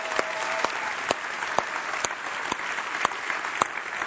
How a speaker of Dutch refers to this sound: Kijk. Goed applaus, hè?